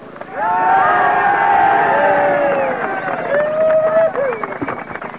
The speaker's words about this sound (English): Let's give him a hand.